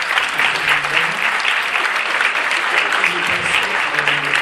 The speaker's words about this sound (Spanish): Increíblemente, para ser mexicano, estamos empezando a las 5 en punto. ¿Qué pasa? bueno, creo que le damos un aplauso por eso.